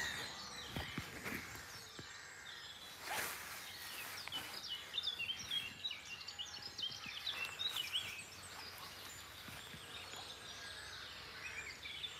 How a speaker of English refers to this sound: And I'm now going to shut up and hope you can enjoy the blackcaps that are singing around here.